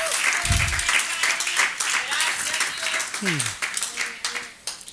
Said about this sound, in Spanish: ¿Alguien le puede dar gracias al Señor? No, déselo fuerte. Si le va a dar el aplauso, déselo fuerte.